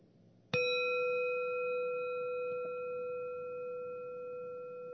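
A single bell is struck once and rings out with a clear, sustained tone, its harmonics slowly fading over several seconds against a quiet background.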